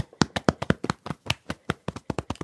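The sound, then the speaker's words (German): A standing person's small fists drum rapidly on their chest, producing a quick, steady run of about sixteen dull thumps in roughly two and a half seconds, with no one speaking. “Balle deine Hände zu kleinen Fäusten und trommel mal auf deiner Brust.”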